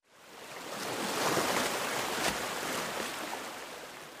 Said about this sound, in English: Coffee-colored water gurgles near the Franklin Dam and flows down the Caloosahatchee River, roughly 30 miles from Fort Myers. The U.S. Army Corps of Engineers is releasing this water from Lake Okeechobee so it doesn't overflow.